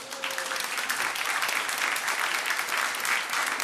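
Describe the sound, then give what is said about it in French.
An audience at the Cité du Vin in Bordeaux applauds steadily, a dense continuous patter of many hands clapping at an even level throughout, with no voices standing out. “Et le public bordelais, vous allez l'entendre, il va applaudir dans un instant pour bien prouver sa présence.”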